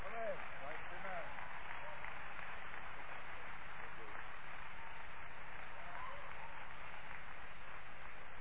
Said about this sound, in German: Gib dir mal einen Applaus.